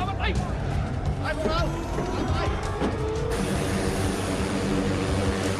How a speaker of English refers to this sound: The plane's now flying low over the jungle canopy.